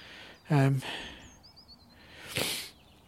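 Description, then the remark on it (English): A sharp nasal sniff rises and fades near the end, following an earlier brief voiced hum-like breath. No talking, just quiet background around the two sounds. “Sorry for the sniffles.”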